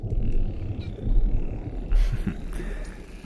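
Dolphins vocalizing near a boat, faint high whistles and short bursts of squeaks rising over a steady low rumble of engine and water noise.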